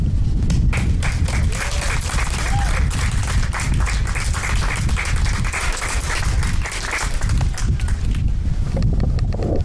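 Sustained applause from an audience fills the space, a dense, steady wash of many hands clapping at close range that continues throughout without pause.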